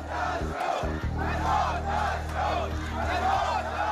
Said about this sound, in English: A crowd of protesters in the Saudi Arabia village of Al Awamiya chanting, "Down with the Saud, death to the Saud," after the beheading of the prominent Shiite cleric Nimr al-Nimra.